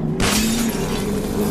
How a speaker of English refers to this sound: And the window breaks. The enemy is getting stronger. As they're starting to break in.